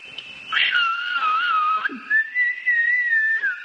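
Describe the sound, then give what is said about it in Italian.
People whistling: sustained, wavering pitched tones that glide up and down, with a few sharp bursts, continuous for several seconds with no speech. “Fischiano e...”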